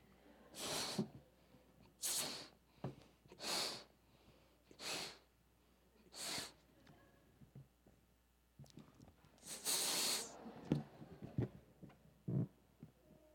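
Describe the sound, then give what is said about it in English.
Six or so forceful breaths blown steadily into a magic balloon by mouth, evenly spaced puffs with brief inhales between, the last blow longer and stronger, fairly loud with no talking. “Ah, a magic balloon.”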